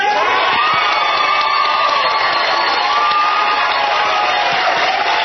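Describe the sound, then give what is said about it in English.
A large audience of people who will vote for Senator Kerry stand up and cheer and shout continuously, a dense, loud roar of voices with whoops rising out of it, sustained for several seconds without a break. “If you're going to vote for Senator Kerry, stand up and cheer.”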